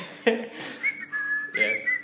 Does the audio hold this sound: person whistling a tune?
yes